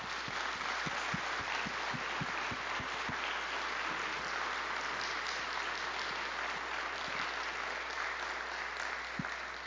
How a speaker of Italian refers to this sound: Good evening. Before I go any further, shall we give them a round of applause, please?